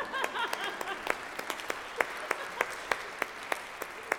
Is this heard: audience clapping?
yes